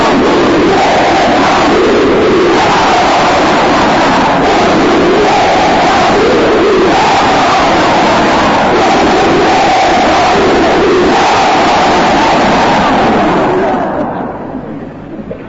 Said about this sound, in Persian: در اون راه پیمایی تاسوعا، عاشورا، اربعین، 28 ماه سفر همه یک صدا فریاد می‌زدن جمهوری اسلامی ایجاد باید کردن.